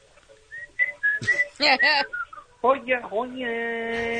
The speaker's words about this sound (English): What's he whistling? I don't know. I feel like we should know this.